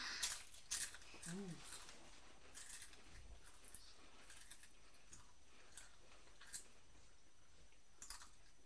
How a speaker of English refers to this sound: A big one. Was that a big crisp? Crunchy now. Is it crunchy now?